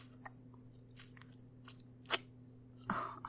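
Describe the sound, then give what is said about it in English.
Quiet chewing with a handful of crisp, crunchy mouth clicks spaced irregularly over a few seconds, set against a faint steady electrical hum. Nobody speaks. “A little hard not to chew, but no, don't worry.”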